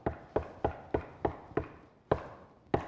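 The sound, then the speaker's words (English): A series of about eight solid knocks on a neighbour's door, evenly spaced at first, then a short pause before the last two. The knocking is firm, with no voices. “It's not a quiet door. And it appears that there is no hope for our lead because the neighbor will not get up and help.”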